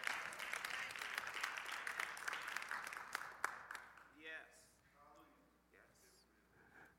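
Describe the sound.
A crowd claps together in a dense, brisk burst of applause for a few seconds, then the clapping thins out and fades as a voice begins speaking.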